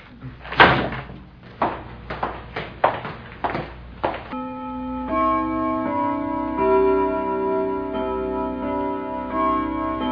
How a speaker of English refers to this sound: That's a fine grandfather clock. It must be a true joy to have such a grand timepiece such as that. Yes, it is a true privilege and an honor to have that in our home.